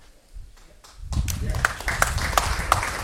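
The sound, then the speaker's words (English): After a near-silent second, audience applause breaks out: a dense, steady wash of many hands clapping with a few sharper individual claps standing out, holding at a fairly loud level to the end. “Clap it for yourselves.”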